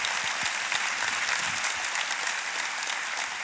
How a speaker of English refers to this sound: But you put your hands together and welcome